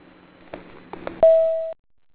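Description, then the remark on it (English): A few soft clicks and knocks, then a single steady electronic answering machine beep, signalling callers to leave a message for a lawn and landscaping business, holds one pitch for about half a second before cutting off sharply into silence. “Wait for the beep.”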